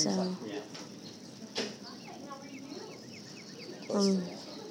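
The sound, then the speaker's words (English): Soft, repeated bird chirps and short twittering calls play quietly in the background as relaxing sounds while waiting in an x-ray waiting room, with brief muffled voices rising at the start and near the end. “I've got birds in the background because it's helping me relax.”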